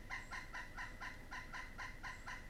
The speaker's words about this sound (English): Even the birds in the trees cry out with the wonder of it all.